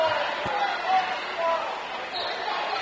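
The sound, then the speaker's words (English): An arena crowd of Silver Streak basketball fans on their feet shouts and cheers in a steady, dense roar during a game against the Blue Devils, with a single sharp thud early on, like a ball hitting the court. “we got a bunch of Silver Streak faithful on their feet shouting right now”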